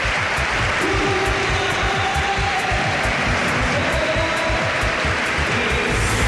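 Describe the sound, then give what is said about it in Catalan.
A large arena crowd at the Palau applauds as Saras comes out, the first applause of the night. The clapping is a dense, steady roar that stays loud for the whole stretch, with faint cheers and a few tonal whistles rising through the noise. “És evident que ha sortit Saras perquè deuen ser els únics, els primers aplaudiments de la nit.”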